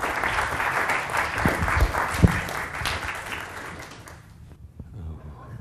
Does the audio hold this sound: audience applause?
yes